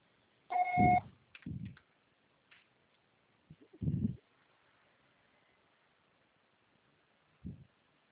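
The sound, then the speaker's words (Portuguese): A single short voicemail signal tone marking the start of message recording, a steady mid-pitched beep with a buzzy edge, followed by a few dull low thumps over faint line hiss, with no voices. “grave o seu recado. Sua sessão será tarifada após o sinal.”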